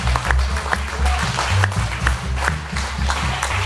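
Audience applause at a French Club meal, a dense steady patter of many hands clapping at once, moderately loud and sustained throughout with a low murmur underneath.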